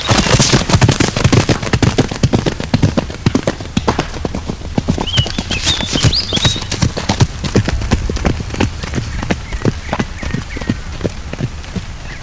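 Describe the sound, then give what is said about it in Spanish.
Horses' hooves clatter in a brisk, steady trot as Count Sifrido and a couple of squires ride out through the gates of Asidonia, a dense run of sharp clip-clop beats that carries on for the whole stretch, with faint high bird chirps in the background. “Se abren las puertas de Asidonia y salen a caballo el conde Sifrido con un par de escuderos, el obispo y Risibinto.”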